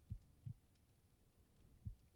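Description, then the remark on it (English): Soft, low human heartbeat thumps with a muffled quality, heard against a person's chest: a paired beat near the start, then a pause before another thump, over a quiet background. “Can you hear my heartbeat?”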